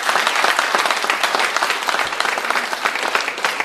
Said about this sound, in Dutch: Hebben jullie wel eens een applaus gegeven aan het aanbiddingsteam, of niet? Aan het muziekteam? Een applaus gegeven aan het muziekteam, hebben jullie dat wel eens gedaan in de kerk hier? Zullen we het even doen?